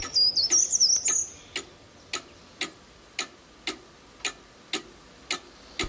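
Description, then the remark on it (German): A cuckoo clock ticks steadily at a brisk, even pace, clear, while a brief high warbling bird-like chirp sounds over the first second before the ticking continues alone. “Zur gleichen Zeit in der Kuckucksuhr.”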